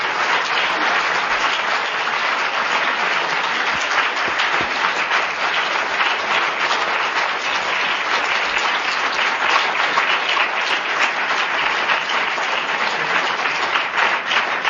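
A crowd at the close of an evening talk applauds its guests steadily for about fifteen seconds, a dense, even wash of many hands clapping at constant loudness with no voices standing out.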